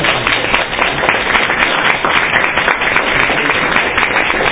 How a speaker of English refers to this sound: To clap really loud so Marquise can hear us all the way from Chicago.